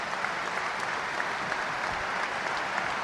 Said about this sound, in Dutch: Maar het applaus klinkt alvast in de Kuip.